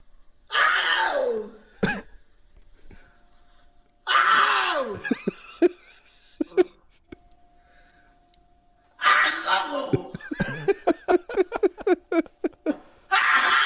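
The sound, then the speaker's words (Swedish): An elderly woman sneezes loudly and theatrically three times, each sneeze drawn out with a vocal wind-up, separated by short quiet pauses, the last one trailing into rapid sputtering bursts. “Karismatiska nysar i alla fall, det får man ju säga.”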